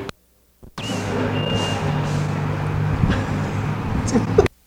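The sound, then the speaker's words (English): Heavy trucks rumble outside, a trash truck at the back and a digging truck at the front, their engines making a loud, steady drone with a faint high whine. The noise starts abruptly after a short silence and cuts off sharply. “Battling the trash truck in the back and the digging truck in the front.”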